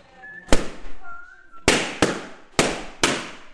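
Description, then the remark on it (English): Five loud, sharp balloon pops burst at irregular intervals, the last four coming in two quick pairs, with faint voices murmuring between the first bangs. “Like fireworks.”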